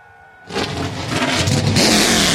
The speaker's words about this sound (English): The engines have come to life. The Dude Wipes 250 coming up next. The NASCAR Xfinity Series live right here on the Motor Racing Network.